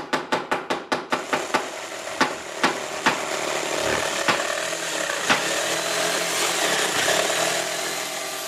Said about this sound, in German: In ihrem Atelier werkelt die 42-jährige Schweizerin. Sie hämmert, sägt, lackiert, baut alte Möbel auseinander und schraubt Regalbretter sowie Schranktüren wieder zusammen.